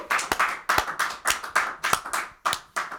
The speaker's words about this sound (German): Kurz einen Applaus, einmal Applaus für den Gewinner,